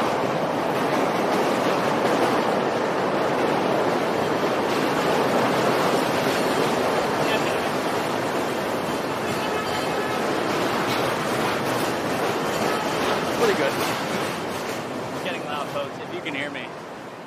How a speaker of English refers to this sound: Okay, sorry, the train went over us. You asked for a Chicago live stream, and you get all of Chicago, including the trains.